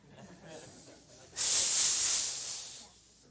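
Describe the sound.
A person makes a long, forceful hiss through their teeth, imitating a disgusted snake-like sound, starting abruptly after a quiet moment and tapering off over about a second and a half.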